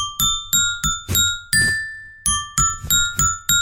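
A xylophone picks out a short, catchy advertising jingle of about a dozen bright, ringing notes in a steady bouncing rhythm, with one longer held tone midway. No voices.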